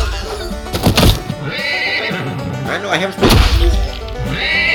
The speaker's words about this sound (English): Stop doing that, you stupid horse.